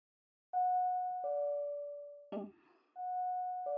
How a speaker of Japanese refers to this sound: 何かしら、家のチャイムが鳴って、特に宅配便とかも頼んでいる気がしないんだけど。 はい、開けますからお待ちください。